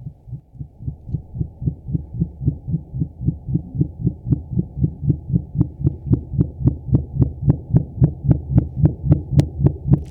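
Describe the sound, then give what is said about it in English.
A minke whale call: a long, steady train of low throbbing pulses, about three per second, gradually getting louder, with sharper clicky edges toward the end. No voices. “No, and the minke whale, I'm particularly interested in them.”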